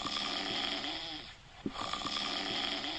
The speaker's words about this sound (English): Oh my god, what is that? Do I hear snoring?